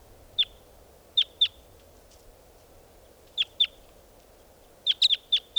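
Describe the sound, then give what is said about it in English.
Decoy birds give short, sharp, high chirps, mostly in quick pairs, ending in a rapid burst of four or five, over a steady low background hum. No one speaks. “These are the calls of the decoys.”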